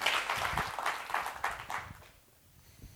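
An audience at the Los Angeles Public Library claps to welcome two authors, a dense, crackling wash for about two seconds, then the applause quickly thins out and fades to near silence.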